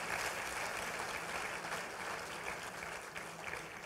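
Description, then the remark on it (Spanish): A church audience applauds God after a prayer, a dense wash of many hands clapping at once that holds at an even level throughout without pausing. “¿Puedes dar un fuerte aplauso, Señor, por eso?”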